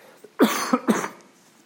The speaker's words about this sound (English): I'm going to cough again.